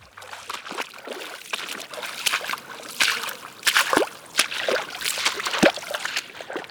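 Repeated squelches and splashes, like footsteps slogging through mud and shallow water in a slightly flooded meadow in a national forest, with irregular wet sloshes and trickles scattered over a few seconds and no talking.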